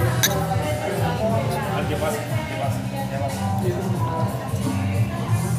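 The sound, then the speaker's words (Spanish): Several light glass clinks ring out over a steady, busy background of voices and murmur as beer is served and glasses are tapped together in a toast. “hoy no se escucha el destapar la pola, pero no, sí, pero sirviéndola. El salud.”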